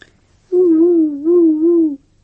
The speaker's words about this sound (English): The melodic call of a distant barred owl drifted through the humid air. My owl was now wide awake and staring in the direction of this sound.